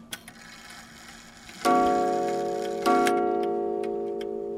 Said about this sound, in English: His repair shop, Wind Me Up Clock Shop in Rhinelander, is full of stories, memories, and, of course, clocks. The tick and the tock that you're listening to, that is what they call the beat.